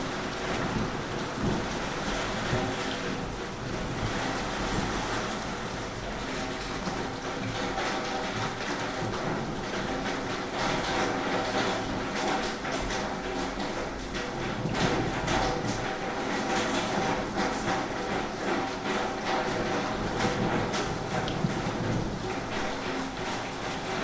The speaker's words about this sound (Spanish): se ha puesto a llover con cierta intensidad aquí en Zaragoza. A ver si se escucha.